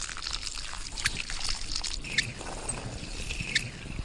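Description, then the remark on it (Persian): Water runs steadily from a garden hose, a continuous hissing splash with a few sharp clicks and spatters along the way. No voices, just the constant flow. “مامان شیلنگ آب.”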